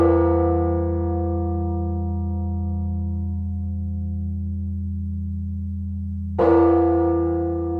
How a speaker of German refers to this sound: er war fasziniert von der Musik und den Glockenklängen russischer Kirchen und fuhr in Moskau jeden Morgen aus rein musikalischen Gründen zum Gottesdienst.